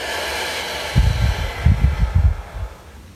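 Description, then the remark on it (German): A long, deep breath out during a guided group breathing exercise, gusting in uneven puffs for about two seconds over a soft steady hiss. No one speaks. “Und wieder aus.”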